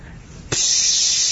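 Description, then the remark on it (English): A can of spray paint hisses on abruptly about halfway through and keeps up a steady, bright, airy spray until the end, fairly loud with no voices. “He had a spring oscillating up and down with spray paint. So it was spraying on a big piece of paper.”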